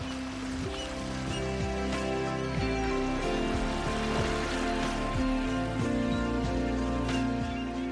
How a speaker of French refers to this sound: Attends, il pleut. La cabine est fermée.